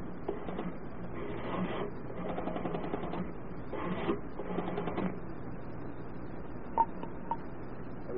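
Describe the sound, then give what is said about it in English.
A telephone being dialed at a hotel pay-phone booth: a series of short mechanical whirring bursts, one after another, followed by a couple of sharp clicks, with no voices. “I'd like to make a phone call first.”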